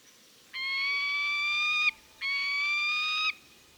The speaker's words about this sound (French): Le cri du faucon pèlerin que vous avez écouté a été enregistré par Xavier Rira